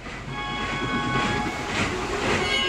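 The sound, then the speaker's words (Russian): A train pulls away and gathers speed, rolling steadily along with a continuous loud rumble and rhythmic wheel clatter, with faint metallic squeals riding above the noise and no voices. “И поезд тронулся.”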